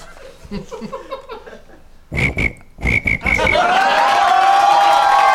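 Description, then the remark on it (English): A person imitates a cricket with their voice: a series of quick, raspy chirping bursts in an uneven rhythm, then a sustained, rising whistle-like tone. “All right, give it a try. Do a cricket noise.”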